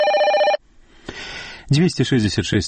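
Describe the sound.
A telephone bell rings in a short, loud burst at the start with a bright trilling tone, introducing a round-the-clock answering-machine phone line in Minsk, then cuts off, followed by a faint noise and a voice speaking.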